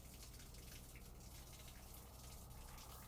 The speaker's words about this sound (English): I'm gonna go put my hands in water.